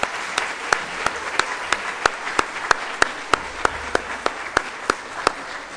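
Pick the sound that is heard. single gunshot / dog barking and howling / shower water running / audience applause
audience applause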